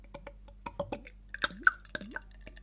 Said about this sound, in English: Now, with Banksy's Mild, you have to pour it very quickly, right in the middle of the glass to get a nice head. And it does a sterling job of initially starting to look like Guinness.